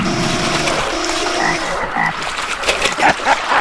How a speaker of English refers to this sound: Oh, there's crocodile.